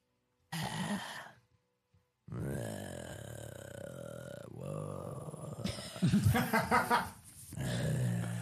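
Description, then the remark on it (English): A person voices a creature's long, guttural howl in a weird language, rough and growling with burp-like gurgles, rising and falling over several seconds after a short opening grunt, loud. “And its eyes are pointing in slightly different directions, and it sort of turns its head back to the warehouse, howls something in a weird guttural language you don't know about.”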